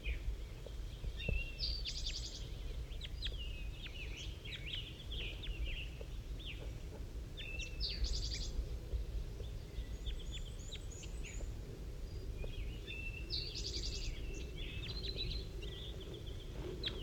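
Several birds, the bird 5-3 and two wild ones, trade short, high, rasping calls back and forth in bursts every few seconds, softly, over a steady low rumble of background noise. No one speaks.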